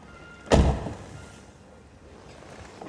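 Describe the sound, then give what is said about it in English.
Two people sitting in a car pull their doors shut. A car door swings shut with a heavy thunk that rings briefly inside the cabin, then quiet until a second door begins to close right at the end. “They pull their doors shut.”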